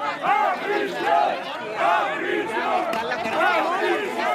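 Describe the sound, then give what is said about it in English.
A crowd of protesters at Barcelona's airport yells and chants at two returning former Catalan government ministers, shouting that the ex-minister should go to prison, in loud, overlapping voices, with rhythmic shouted bursts rising roughly every second over a constant roar of many people. “But two of them unexpectedly returned to Spain after just a day and were deluged by protesters at Barcelona's airport.”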